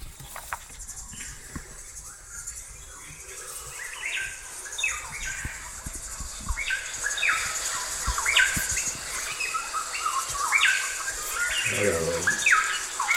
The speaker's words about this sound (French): Ça, c'est des oiseaux de l'île Tchegera, c'est sur le lac Kivu, dans l'est du Congo. Là, c'est elle que j'ai fait l'enregistrement.